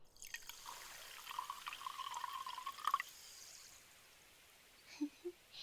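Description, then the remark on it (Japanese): A thin stream of fizzy carbonated water pours steadily onto a forehead for a few seconds, then gives way to a soft crackle of bursting bubbles and a couple of quiet drips. “パチパチと泡のはじける不思議なお水じゃ。これを額の上から細く注いでいくぞえ。”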